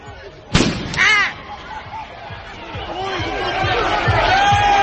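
A sharp firework bang goes off, followed by a crackling burst and a string of lower booms, while a crowd clamors and shouts throughout, growing louder toward the end.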